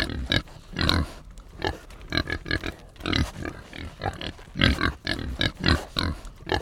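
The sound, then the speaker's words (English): Several pigs on a farm grunt and snort in quick, irregular bursts, fairly loud, as they are fed, with the snuffling sounds overlapping throughout and no one speaking. “The owner of the farm sent him out to feed the pigs.”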